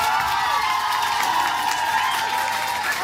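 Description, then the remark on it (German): A crowd at a poetry slam in Paderborn, Germany, applauds and cheers loudly and steadily, giving a 10-point applause for the jurors: sustained clapping mixed with shouts and whoops from a large audience, with no break in the noise. “Wie klingt hier und heute ein 10-Punkte-Applaus?”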